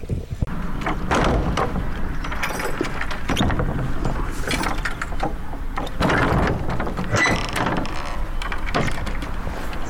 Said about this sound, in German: Das war eine schwere Tür gewesen.